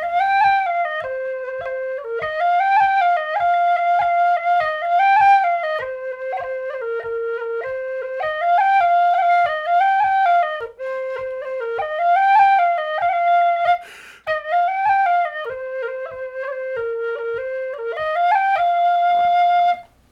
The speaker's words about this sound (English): Anyway, here it is. It's a lute tune, so that means the tunings have been funky, but I'll play it on a B-flat generation whistle for you.